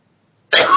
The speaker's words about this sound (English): I'm laughing and coughing